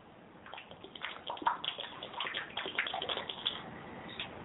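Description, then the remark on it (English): A man drinking water, a few seconds of wet slurping, swallowing and liquid sloshing in uneven bursts, with no talking. “That was just him drinking water.”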